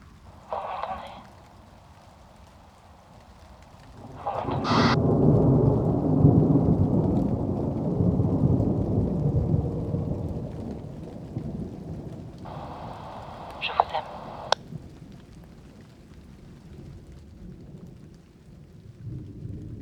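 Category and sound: nature, rain with rolling thunder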